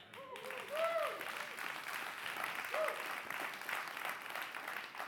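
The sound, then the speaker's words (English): A crowd bursts into sustained applause, many hands clapping together in a dense, steady wash, with a few voices calling out briefly near the start. “clapping now, but they don't know what's about to happen.”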